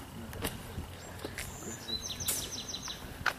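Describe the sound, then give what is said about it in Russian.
American birds sing and chirp in the trees, a scatter of short high tweets and trills over a steady low outdoor rumble with no one talking. “Хорошо, хорошо поют, друзья, американские птицы.”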